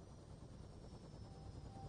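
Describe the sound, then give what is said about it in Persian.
A helicopter's engine and rotor drone steadily and loudly, a dense continuous low rumble with a thin high whine running through it, no voices. The helicopter is flying over the sea among floating icebergs on one engine, after engine number 2 was shut down because of low oil pressure. “از پنجره یه هلیکوپتر رو به دریا که کوههای یخ اطراف شناورن نگاه میکنیم”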